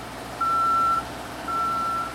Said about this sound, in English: These sounds are a crane and the man lift backup alarms.